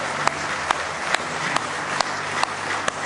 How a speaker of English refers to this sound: Why don't you give the Lord a good hand clap of praise tonight? You love Him with all your heart.